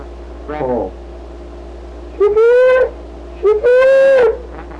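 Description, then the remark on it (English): A brief low vocal sound is followed by two loud, drawn-out, high-pitched calls from a voice imitating a call to chickens, with a steady low hum running underneath throughout. “What's the call to chicken?”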